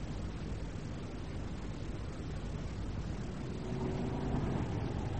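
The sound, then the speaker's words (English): An old, battered car's engine runs steadily with a dense, low rumble throughout, growing slightly louder toward the end, with a faint whine rising briefly over the drone. “Mind, it is an old car and battered.”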